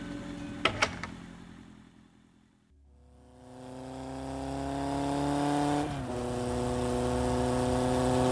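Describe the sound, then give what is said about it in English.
A motorcycle engine revs, its pitch climbing steadily, then dips briefly as it shifts before droning on at a strong, steady level as it slows down. A couple of sharp clicks come first. “Now it's an enchanted motorcycle. Oh, slowing down.”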